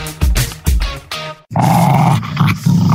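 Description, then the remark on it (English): A big Rottweiler growls loudly, three short snarling bursts followed by a deep, sustained rumbling growl, with no one speaking. “We would never downgrade your dog to a little poodle. Yapping chihuahua. Corgi.”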